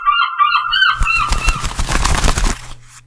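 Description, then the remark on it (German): Gulls call out in a harsh, squawking series over the first second on the Fischland-Darß-Zingst peninsula, then give way to a loud, crackling rush of noise with rapid pulses and a low hum underneath. “Wie die Bäume sich im Wind wiegen und die Fischer in ihren Booten auf die See hinausfahren und die Möwen.”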